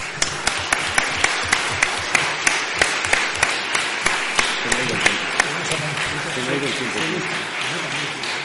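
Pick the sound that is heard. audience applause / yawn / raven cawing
audience applause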